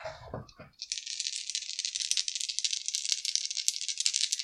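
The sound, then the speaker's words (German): Dice rolled for an alchemy check in a role-playing game, coming up 19: they rattle and clatter in a steady, bright, continuous stream for about three and a half seconds, preceded by a brief lower thump or two at the start. “So, dann muss ich jetzt ja einmal auf Alchemie würfeln, ob ich das Ganze überhaupt hinkriege, ne?”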